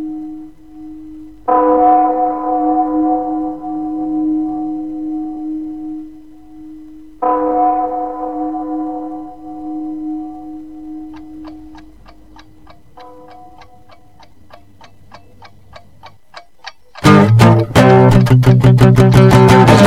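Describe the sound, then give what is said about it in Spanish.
A rough acoustic song recording opens with two sustained, ringing chords, then a steady clock-like ticking builds before the full instrumentation bursts in loudly near the end. No voices. “vamos a meter este rollito acústico, todo nada, la canción …”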